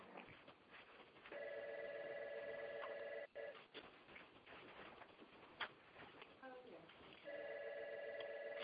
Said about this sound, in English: Well, somebody's got a ringing phone.